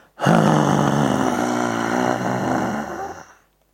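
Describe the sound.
A person performs a long, forceful breathy exhale with a raspy, growling tone, imitating a lion's roar. This is the Simhasana (lion's breath) yoga exercise, done with the tongue out, eyes looking up and fingers spread. It starts abruptly, holds steady for about three seconds, then fades out.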